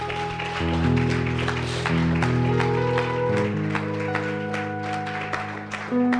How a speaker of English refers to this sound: Come on and give God a hand clap of praise.